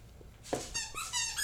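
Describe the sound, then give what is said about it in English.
A dog makes a run of shrill, whining squeaks in quick succession, moderately loud, with no talking. “Dog, you need to take that in the other room.”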